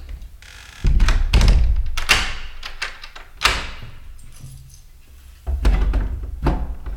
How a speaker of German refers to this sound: Hörst du das? Doc hat die Tür verkeilt. Wahrscheinlich mit einem Stuhl.